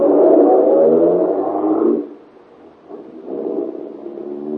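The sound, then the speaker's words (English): A car engine roars loudly for a couple of seconds as the driver steps on the gas, eases off briefly, then revs up again with a steady, throaty drone as it pulls away. No one speaks. “You're almost jubilant as you run to your car, tell Helene the good news, and step on the gas.”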